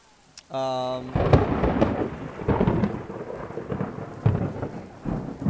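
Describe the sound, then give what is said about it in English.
A loud thunderstorm: heavy, steady rain hisses throughout while rolling thunder booms in repeated, powerful bursts, with a brief tonal hum just before the storm sound swells in. “Wow, we're in a thunderstorm.”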